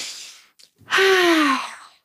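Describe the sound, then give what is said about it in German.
A breathy intake of air as a deep breath is taken in, a brief pause, then a long voiced sigh that falls in pitch as the breath is released. No one speaks. “Dass wir atmen einmal tief ein.”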